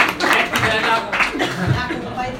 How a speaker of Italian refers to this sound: Bravo. Un applauso.